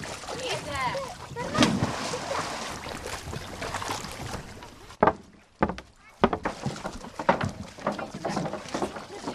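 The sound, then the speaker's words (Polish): Small sailing boats are taken out of the water at a slipway, with a trolley brought into the water. Steady sloshing and splashing with scattered knocks and thumps, people talking, and a brief quieter lull partway through. “Dobra, towarzystwo, wyjmujemy łódki z wody, pakujemy się na nie pojedynczo, podpływamy do slipu.”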